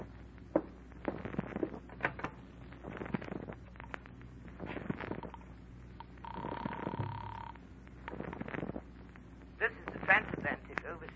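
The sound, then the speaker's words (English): A telephone handset is lifted with a clatter to place a collect call to New York, a steady tone sounds for about a second, and then come several more clicks and knocks of handling, with faint voices. “Mind if I use your phone?”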